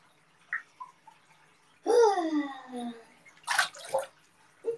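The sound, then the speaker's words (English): Bathtub water from a faucet comes in a couple of short, noisy gushes near the end, after a person's bright exclamation and some low vocal sounds earlier on. “All right, there goes the water.”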